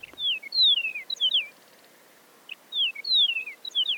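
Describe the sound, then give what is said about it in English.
A Chihuahuan meadowlark sings two similar phrases of clear, slurred descending whistles separated by a short pause, fairly loud with no talking. “The research suggested that song differences could help prevent Chihuahuan meadowlarks from breeding with other species, and that eastern and western meadowlarks are more closely related to each other than they are to the Chihuahuan birds.”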